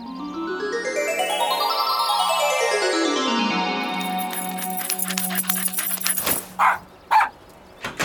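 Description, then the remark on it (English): A dog named Buster gives two short, loud barks near the end, following a long sweeping, whistle-like tone that glides up and down, then a patter of clicks. “Oh, hello there, doggy.”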